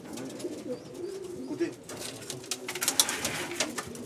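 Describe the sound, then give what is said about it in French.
Several pigeons kept by a pigeon fancier in Denain, France, coo in low, throaty murmurs, overlapping in a steady soft burble, with scattered fluttering and shuffling noises rising toward the end. “Parler aux pigeons, bon, on n'attend pas une réponse bien sûr, mais bon, on aime leur parler.”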